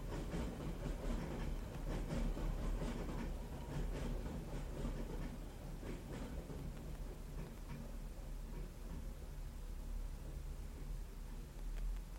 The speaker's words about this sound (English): You can hear in the background the sound of London Underground tube train.